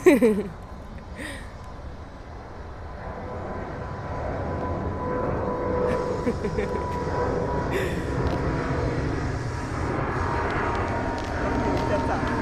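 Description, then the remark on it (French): An airplane bound for Qatar climbs overhead after takeoff, its engine roar swelling into a steady, broad rumble that fills the whole clip, with a brief voice near the start. “Et un avion.”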